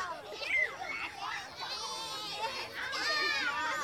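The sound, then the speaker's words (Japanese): Many children's voices chatter and shout at a distance, a busy, overlapping murmur of play with occasional higher squeals, steady throughout and fairly faint, like a park or playground. “子供たち。”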